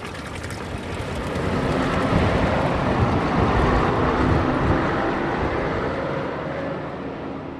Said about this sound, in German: Doch kaum ein Passant achtet sich und nach wenigen Metern verhallt im Straßenlärm auch das Plätschern des Brunnens.